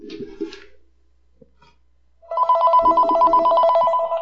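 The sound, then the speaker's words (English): A telephone rings loudly and steadily with a bright, warbling electronic tone for an incoming call, lasting nearly two seconds after a brief quiet pause following a short burst of sound. “Okay, speaking of the Ukraine, let's see if we actually have someone on the phone here.”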